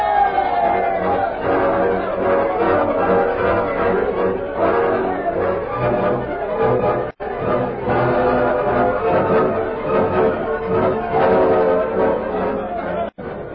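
A dense crowd murmurs and chatters continuously as it empties a meeting hall and drifts homeward after a meeting is adjourned. Many overlapping voices blend into a steady, fairly loud babble with no single voice standing out, broken by two brief drops near the middle and end.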